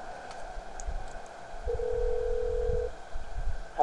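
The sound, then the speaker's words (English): A telephone call connecting: a single steady ringback tone sounds for about a second over a low, rumbling line hum, fairly quiet and with no voices. “Okay, as a request, I'm ringing”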